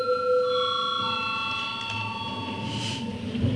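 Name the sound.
parliament voting bell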